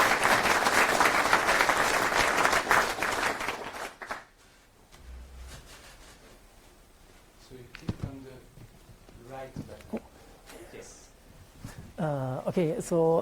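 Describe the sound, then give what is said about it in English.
A loud burst of audience applause welcoming a speaker to a talk on using CRDTs for collaborative commenting in a free software desktop word processor. It is dense and steady for about four seconds, then cuts off abruptly; after a quiet pause, someone starts speaking. “Let's welcome him with a round of applause.”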